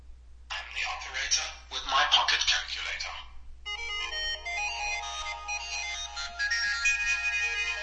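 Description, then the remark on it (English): A custom phone ringtone plays: a dense, hissy burst of music gives way after a short gap to a steady, bright tonal melody, fairly loud, over a faint low hum with no talking. “And that's my new ringtone, and that's as easy as it is.”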